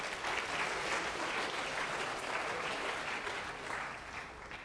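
An audience applauds steadily, a dense wash of many hands clapping at once, sustained and fairly loud for several seconds before easing slightly at the end, with no voices rising above it.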